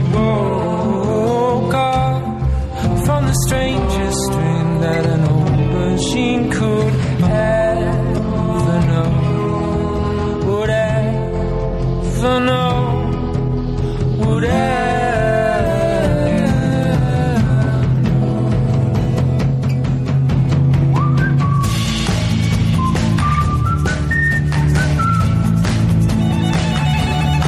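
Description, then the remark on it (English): A whistled melody weaves through lively instrumental music with a violin, the two lines trading quick phrases over a steady, full accompaniment that stays loud throughout, with no talking. “It's a lot of whistling.”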